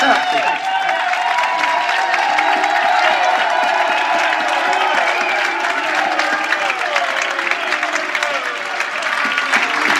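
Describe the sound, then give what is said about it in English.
A large crowd at a church chants the surname "Boone" to honour a church member, drawn out so it sounds like sustained booing, mixed with loud, continuous applause and cheering for the whole stretch. “They're saying is Boone. They're not booing him.”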